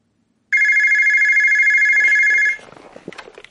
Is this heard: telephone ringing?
yes